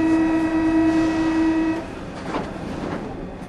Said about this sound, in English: I'm on the subway riding to what the novelist Victor Hugo called Paris's outpouring of gold, or luxury, or magnificence, all descriptions of the Paris sewers.